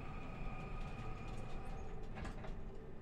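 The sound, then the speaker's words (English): Elevator doors slide shut over a steady mechanical rumble and hum, with a brief rattling clunk near the end, as the elevator is going down. Moderately loud, with no voices. “Please mind the doors. Doors closing.”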